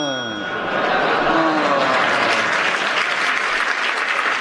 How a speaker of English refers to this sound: Well, you've got a well-deserved round of applause because you went for 32 seconds on that. Well done,